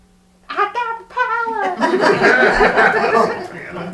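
Two drawn-out, wavering cat meows sound close by one after the other, followed by a burst of laughter and noisy chatter that fills the rest of the moment.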